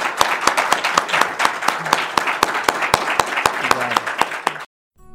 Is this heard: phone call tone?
no